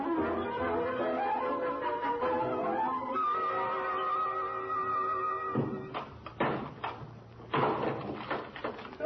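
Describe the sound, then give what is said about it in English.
A locked door with a new lock is forced open: a long, strained creaking and groaning, then a burst of loud thuds and cracking blows as it gives way. “And I've got to get to him, even if that door has to be broken down.”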